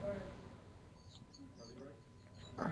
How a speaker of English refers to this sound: You have some tweeting birds in the background? It sounds so peaceful and nice. I live in Hawaii.